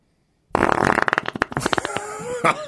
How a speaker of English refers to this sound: Little … fart. You've always wanted to know. Yeah. Now you found out.